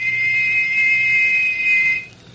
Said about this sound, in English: Well, he said, on the river, and to listen for another whistle like this one.